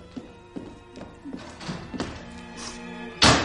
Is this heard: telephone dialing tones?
no